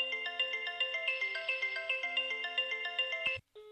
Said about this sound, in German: Ich rufe jetzt mal bei mir zu Hause an, auf dem anderen Festnetztelefon. Da wird jetzt wahrscheinlich auch gleich im Hintergrund noch das Telefon aus dem Wohnzimmer bimmeln. Schauen wir mal.